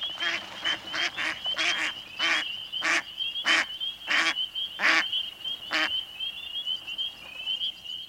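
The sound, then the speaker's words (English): Mallard hens quack loudly and harshly as a flock springs from the water of a northern marsh at night, around ten calls in quick succession at first, then spacing out and fading, over a steady high-pitched trilling chorus of frogs in the background. “As we approach the water's edge, a flock of mallard ducks alert us to their presence, the hens quacking loudly as they spring from the surface of the water.”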